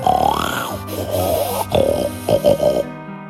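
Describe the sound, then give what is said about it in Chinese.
A voice loudly imitates a father's thunderous snoring with drawn-out, rumbling snorts and grunts, ending in a quick series of three short snorting bursts, clear with no other sounds. “鼾声响亮的就跟打雷一样。所有的邻居也都在打呼了，加起来简直就是爆炸声。”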